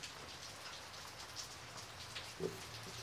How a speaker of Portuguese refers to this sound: Lá embaixo, toda a gente, vendo as gotas que caíam, levantavam de repente guarda-chuvas que se abriam.